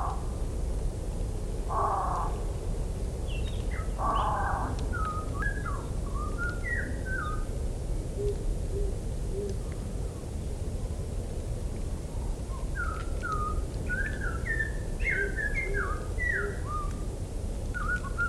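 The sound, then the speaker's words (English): A bird sings outdoors on a very quiet day with few cars on the road, in clear, whistled phrases repeated over a soft, steady background hum, with a couple of harsher rasping calls early on; no voices. “That bird. We wouldn't have been able to hear that on most days. And what sweet music to the ears it is.”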